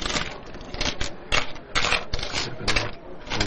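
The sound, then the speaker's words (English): Coins being counted out by an employee on a shop counter, with bright clinks and rattles arriving in irregular bursts, about half a dozen over a few seconds. “The employee counts up the last of the change.”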